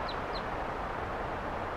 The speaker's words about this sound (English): Flying over. Wild bird. And the birds, some of the wild ones came right here and wanted to perch on the microphone. Now there are some wild ones right here